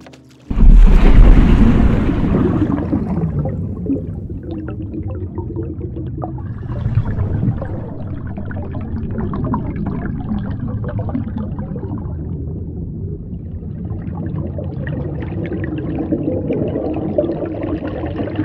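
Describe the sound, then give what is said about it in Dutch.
A boat overturns with a sudden loud crash into the water, followed by a steady churning rush of water and wind that continues without pause. “En dan slaat de boot om.”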